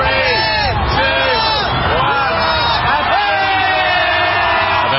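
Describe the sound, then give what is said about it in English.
A huge crowd of New Year's Eve revelers in Times Square, New York City, cheers loudly and continuously while counting down the last seconds of 2019 as a luminescent crystal ball descends a pole; many voices whoop and shout together in a dense, roaring wall of noise that stays full throughout. “In one of the globe's most watched New Year's Eve spectacles, the crowd counted down the last seconds of 2019 as a luminescent crystal ball descended down a pole.”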